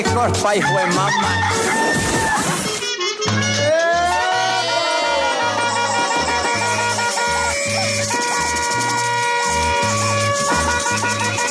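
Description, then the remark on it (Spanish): The Radio Activa rooster crows, loud and drawn out, in a station jingle for its 2022 year-end review, over an upbeat music track with a steady, thumping bass beat running underneath throughout. “Lo peor y lo menos peor del 2022 con el gallo de Radio Activa.”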